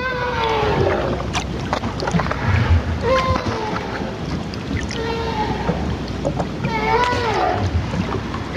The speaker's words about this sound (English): Sounds like screams, which are thought to be produced by female right whales. And gunshot, which are a crazy sound that these whales produce. So that was actually a whale sound, not an actual gunshot.